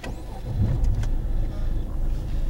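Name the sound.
car driving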